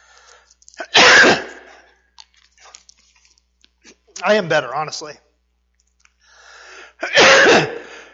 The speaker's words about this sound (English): My wife warned me I might get a coughing effect, and she's right. Excuse me. Always have lozenges.